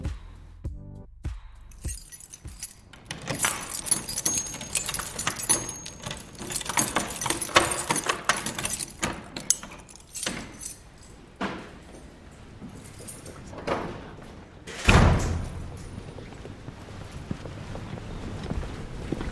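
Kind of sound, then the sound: household object, keys jangling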